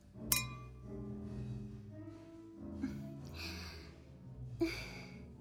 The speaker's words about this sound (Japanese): それじゃあ早速いただきましょうか。まずはシャンパンで乾杯。